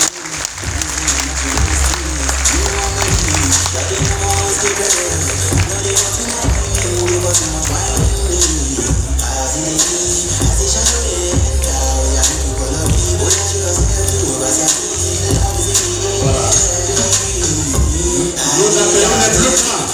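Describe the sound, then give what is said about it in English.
Sustained applause from a large crowd at a school graduation ceremony as graduating students are led out, steady and loud, with a low rhythmic musical beat underneath and murmuring voices mixed in. “Donc, on va les sortir dans les applaudissements, s'il vous plaît.”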